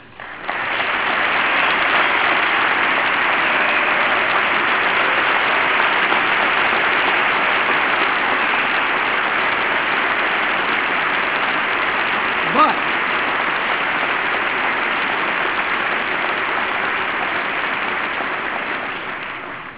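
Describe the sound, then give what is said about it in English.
Members of Congress in the chamber applaud in a dense, steady wash of clapping that holds at an even level for about twenty seconds before tapering off slightly at the end. “You also have to agree that all those differences you just clapped for all too often spark hatred and division, even here at home.”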